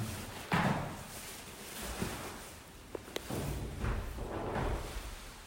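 door being closed

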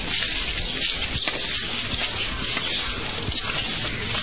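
rain falling

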